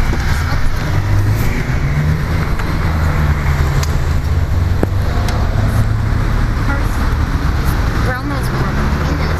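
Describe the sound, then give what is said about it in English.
Steady, loud road traffic rumbles as cars pass, a continuous low engine and tyre drone with a few brief higher clicks and squeaks over it. “Cars, you be careful.”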